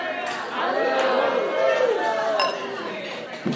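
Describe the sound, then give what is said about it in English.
Glasses clink in a toast amid a lively room of chattering voices, with a few bright, short chimes standing out over the crowd. “And let's raise a glass.”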